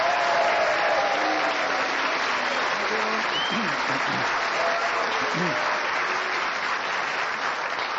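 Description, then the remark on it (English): The audience of the radio show Just a Minute claps and cheers steadily, a dense wash of applause holding at a constant loud level for the full stretch, with a few whoops and shouts rising above it now and then. “Thank you for the cheers and the booze.”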